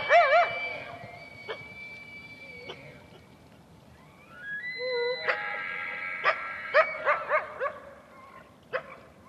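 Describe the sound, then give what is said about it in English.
A coyote barks in the open about 30 yards away, starting with a high, wavering yelp and then a quick series of sharp, ringing barks at irregular intervals, with no talking. “They sort of turned around, and but as soon as that happened, 30 yards over our back shoulder, we could hear all of a sudden a coyote start barking.”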